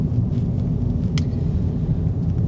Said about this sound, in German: Ich bin wieder im Auto unterwegs, es ist Tag. 20 Grad, fast. Windig. Ein bisschen schwül irgendwie noch.